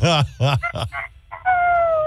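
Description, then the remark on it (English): A person's voice imitates a rooster crow: a few strong, choppy voiced bursts give way to a long, drawn-out tone that slides slightly downward, loud. “By the way, you do a pretty good rooster crow.”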